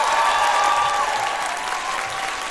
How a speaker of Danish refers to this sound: Hvor mange har set filmen til i dag? Klap, hvis I har set den.